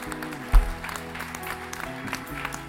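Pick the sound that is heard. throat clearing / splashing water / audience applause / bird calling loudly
audience applause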